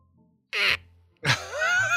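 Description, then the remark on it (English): A person imitates their male pet cat's meow, giving a short breathy burst followed by a drawn-out, tonal meow that bends in pitch, sounding moderately loud with no talking around it. “Is she a loud meower or is she a quiet meower?”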